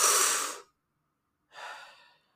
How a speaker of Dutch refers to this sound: Diep in en uit. Diep in en uit. In en uit. In, uit. In en uit. Nog één keer in.